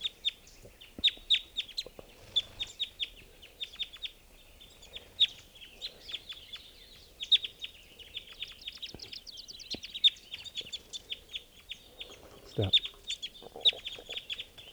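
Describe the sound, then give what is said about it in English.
Several birds, four adults caught in a net, cluck and squawk in quick, repeated bursts, agitated and overlapping, with a brief spoken word and some rustling underneath. “So recording, four birds are in the net, all adults. And there's still a red male here.”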